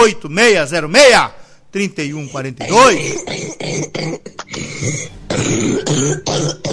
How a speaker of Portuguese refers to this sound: Ei, pra tu aí que deu essa tosse estrambólica aí verde. Misericórdia. Não cospe no chão que fura o piso.